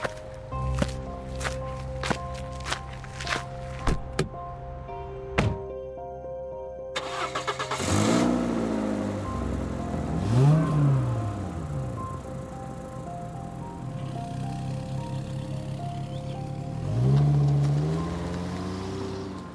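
A few sharp clicks and thumps, then a car engine cranks and starts, revving up in rising sweeps and pulling away, with no one speaking.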